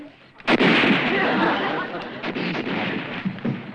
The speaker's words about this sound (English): Keep firing, Sergeant!